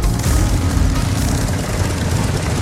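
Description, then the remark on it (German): A motorcycle engine roars steadily and loudly, with a deep, rumbling low end and a rough, gritty texture that holds an even level throughout, with no voices. “Ich bin jetzt nicht wirklich mit dem Motorrad hier ins Studio gefahren.”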